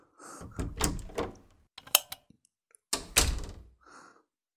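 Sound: door being opened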